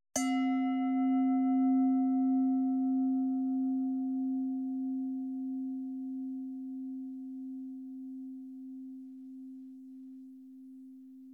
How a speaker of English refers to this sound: Sound of the bell.